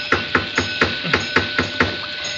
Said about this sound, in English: Perhaps if I rap with my flashlight on the door, it'll attract somebody's attention.